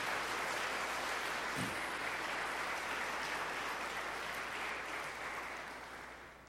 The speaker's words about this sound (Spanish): Den un aplauso al Señor para que usted se anime.